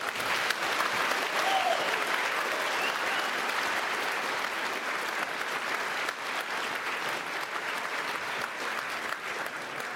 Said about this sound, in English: And maybe another round of applause.